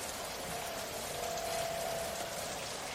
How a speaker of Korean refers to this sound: 여기서 이렇게 비를 피하고 있으니 좋네요.